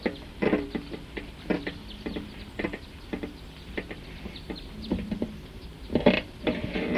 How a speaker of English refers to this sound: So recording that same bird, type 2, is still here. That's the bird.